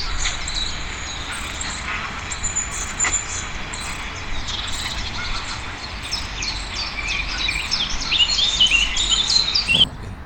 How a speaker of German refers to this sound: Bei Sekunde 4 singt die Blaumeise. Bei Sekunde 6 fängt der Zilpzalp an.